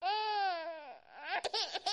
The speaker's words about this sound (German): Da hört sie ein Kind weinen, ganz leise. Es ist geboren.